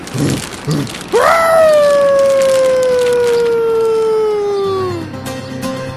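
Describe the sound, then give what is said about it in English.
A wolf lets out one long, loud howl that swoops upward and then slowly glides down over about four seconds, with faint background rumble and a brief murmur just before it. “Hey, that's a wolf.”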